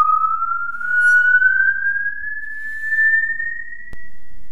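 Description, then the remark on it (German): A musical saw, standing in for a singer's voice in an opera, holds one pure, singing tone that glides slowly and steadily upward to a very high pitch in the four-line octave, sustained alone for several seconds with a slight wavering quality and a soft click near the end. “Auch im Film wurde die Säge zuweilen als Ersatz für die Stimme eingesetzt.”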